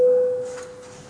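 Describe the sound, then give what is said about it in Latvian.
A single steady, mid-pitched electronic signal tone, a parliament voting bell rung before a vote on a proposal, sounds clearly, then fades away over about a second, with only faint room noise beneath it. “Lūdzu, lūdzu zvanu, balsosim par 18. deputātes Svita Sandas Tēraudes iesniegto priekšlikumu.”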